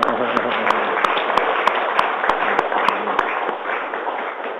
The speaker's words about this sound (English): I think we should applaud Palau.